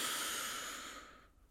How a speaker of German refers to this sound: Wir nehmen zwei, drei normale Atemzüge. Und atmen noch einmal tief ein und halten oben.